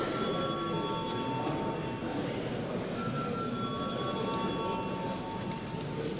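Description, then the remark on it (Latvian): A continuous electric bell in the chamber of the Latvian Saeima (parliament) rings steadily for several seconds before a vote, a bright, buzzing metallic tone with sustained high harmonics over a dense noisy hum, unbroken and fairly loud throughout. “Lūdzu zvanu.”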